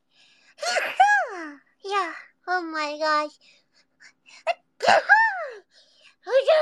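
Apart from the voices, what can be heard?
repeated sneezing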